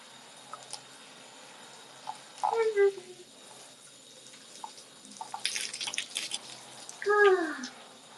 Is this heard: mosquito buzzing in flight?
no